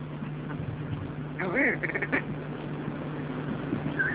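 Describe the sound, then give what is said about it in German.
A brief burst of harsh, croaking calls from a fleeing Scottish red grouse (Lagopus lagopus) during a hunt in Münsterland, Germany, rises in the middle, a few quick guttural notes, over a low steady hum and faint background noise. “Auf der Flucht Lagopus lagopus gotticus, einer breiten Anhängerschaft besser bekannt als schottisches Moorhuhn.”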